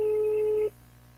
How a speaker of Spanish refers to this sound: Ya le estamos marcando a John para restablecer comunicación de nuevo